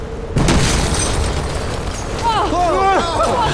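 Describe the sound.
A grenade explodes in a car with a sudden, heavy boom, followed by a loud, sustained roaring rumble. Wavering shouted voices rise over the din near the end.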